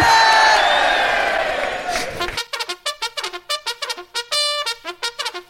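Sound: audience cheering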